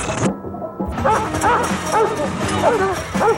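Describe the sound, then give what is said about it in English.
A dog in a yard barks and yips several times in quick succession as a man gets stuck under a fence and it bites his foot, loud, with short whimpering yelps mixed among the barks over a busy background. “When Jerome gets stuck, the dog bites his foot.”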